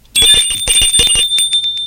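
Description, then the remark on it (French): A doorbell at a flat's door on the first floor of an old, dark, run-down apartment building rings loudly, a bright metallic trill with a rapid rattling clapper that keeps going for nearly two seconds without a break, with no voices. “Et au premier, à sa porte aussi, je sonnai.”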